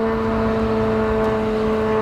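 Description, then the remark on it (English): A cheap, noisy Iranian attack drone flying very low and very slow overhead; its engine buzzes in a steady, unbroken drone, fairly loud and even throughout, with a nasal mechanical hum and no voices. “These are the noisy and cheap drones that Iran has been launching since the start of this war.”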